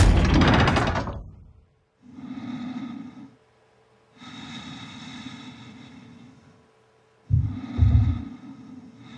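An ancient, heavy door shuts with a loud, rumbling boom at the start, then the space falls quiet except for slow, heavy breathing in several long drawn breaths.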